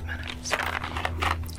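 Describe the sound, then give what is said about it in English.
Chewing of chewy Mike and Ike's fruit candy, with several moist, sticky mouth bursts in an irregular rhythm over a steady low electrical hum. No one speaks. “Well, I like that they last forever. Like you could chew on one of them.”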